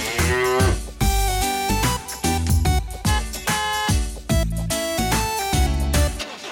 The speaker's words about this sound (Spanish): La vaca en el autobús hace mu, mu, mu, mu, mu, mu, mu, mu, mu. La vaca en el autobús hace mu, mu, mu, por la ciudad.